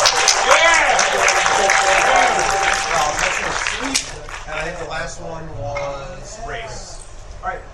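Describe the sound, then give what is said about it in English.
A burst of audience applause, loud and dense for a few seconds, then tapering off as voices talk and laugh over the fading clapping. “A round of applause.”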